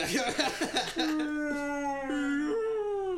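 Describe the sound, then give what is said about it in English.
A voice imitates humpback whale song: a few choppy vocal bursts, then a long, loud, drawn-out moaning tone that wavers and slowly rises in pitch. “Sorry, you're arguing with a whale.”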